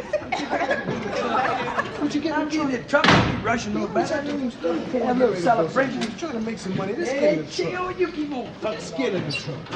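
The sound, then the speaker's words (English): A door slams shut once, a sharp loud bang early on, while several people keep chatting and laughing over and around it. “I closed the door so we can stop.”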